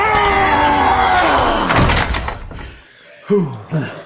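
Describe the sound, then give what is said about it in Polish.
A heavy door groans and grinds loudly as several people push it shut together, ending in one booming slam that rings out and fades; two short vocal exclamations follow. “Pomóżcie mi zamknąć drzwi!”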